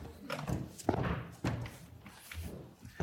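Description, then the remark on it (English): A door swings shut with a couple of dull, heavy thuds about half a second apart, followed by a softer knock and some faint rattling as it settles. “I'm going to ask you to close that door if you don't mind, because those clangers are distracting me.”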